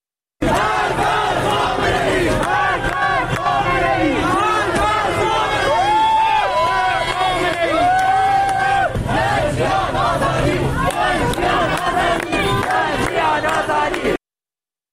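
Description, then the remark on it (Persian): A large street protest crowd in Ilam, Iran, with the street blocked and fires lit, chants and shouts slogans including 'Death to Khamenei' in loud, overlapping waves, voices rising and falling together with some sharper individual yells, continuous for about fourteen seconds. “در ایلام با شعارهای مرگ بر خامنه‌ای خیابون رو با افروختن آتش بستن و شعار میدن.”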